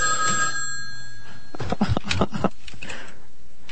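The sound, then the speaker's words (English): Steady electronic fax tones from a fax machine hooked up to the main phone line hum over the line, then give way to a burst of harsh, crackling data noise and scratchy bursts, fairly loud, with no voices. “That's a fax machine.”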